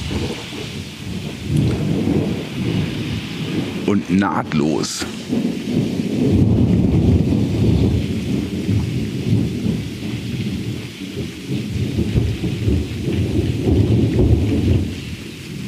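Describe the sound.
A thunderstorm with steady, heavy rain filling the whole scene, deep thunder rumbling and swelling throughout, and a brief sharp crack early on; a voice speaks a few words at one point.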